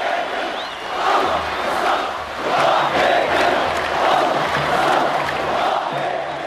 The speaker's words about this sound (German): Aus Sicherheitsgründen war Nasrallah auch diesmal nicht zugegen, sondern sprach aus einem sicheren Fernsehstudio über große Leinwände zum Publikum, das ihn immer wieder begeistert mit Sprechchören unterbrach.